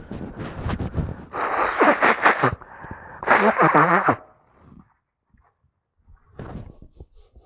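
Someone blows their nose twice, each a loud, rough, honking burst about a second long, with a short pause between them and quieter rustling afterward.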